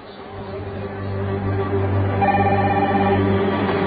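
A telephone rings steadily and fairly loudly, its tone continuing without pause over a low droning hum, with no one speaking.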